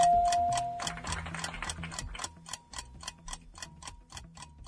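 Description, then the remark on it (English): A quiz countdown timer ticks steadily, about fifteen crisp ticks at an even, brisk pace, clear over a low, soft musical bed with no one speaking. “Did you make that timer longer?”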